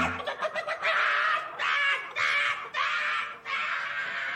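A hen clucks, a few quick short clucks giving way to a run of loud, drawn-out squawking cackles in steady bursts, with no voices present.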